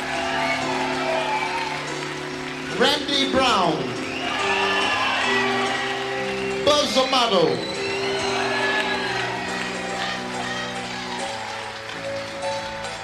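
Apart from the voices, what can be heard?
audience applause and cheering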